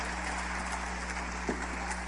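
A steady wash of applause, many hands clapping into a dense, even crackle that holds at a constant level for the whole stretch, with a low hum underneath and no voices.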